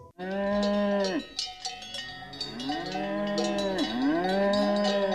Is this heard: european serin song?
no